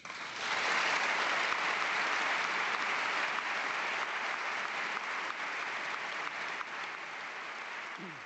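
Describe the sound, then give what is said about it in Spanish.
Sustained applause from senators and deputies fills the Spanish parliament's hemicycle for the emeritus king and queen, Juan Carlos I and Sofía, a dense, steady roar of many hands clapping that rises quickly and holds at an even, loud level throughout, with no one speaking. “homenaje del rey a sus padres en este momento, que vuelven a ser aplaudidos los reyes eméritos por todo el hemiciclo, senadores y diputados, no de nuevo por los de Podemos, que se mantienen en sus escaños sentados y sin aplaudir.”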